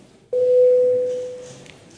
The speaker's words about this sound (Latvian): Paldies, lūdzu zvanu. Balsosim par likuma projekta grozījumi atkrituma apsaimniekošanas likumā atbalstīšanu trešajā galīgajā lasījumā.